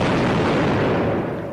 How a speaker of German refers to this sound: Toller Schuss, Narr! Wenn du jetzt bitte noch die Kanone um 180 Grad drehen würdest, dann könntest du vielleicht auch die heranstürmenden Olpen treffen.